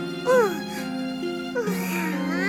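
A baby cries in short, wavering wails that rise and fall in pitch, moderately loud, over a steady low tonal hum.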